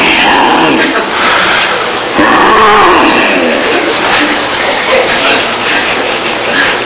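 A car engine starts up and runs with a loud, steady roar for several seconds, its pitch swelling up and back down partway through, as if briefly revved.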